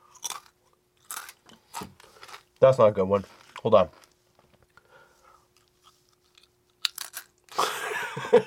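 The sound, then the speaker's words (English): Loud crunching of thick, crispy kettle-style ketchup potato chips being bitten and chewed, a few sharp crackly bursts at the start and end with a brief stretch of talking between them. “Listen to the crunch on this, guys.”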